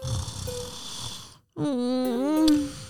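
A voice mimics a piglet snoring: a long raspy, breathy inhale, a brief pause, then a drawn-out nasal, voiced exhale, close and fairly loud, with no other talk.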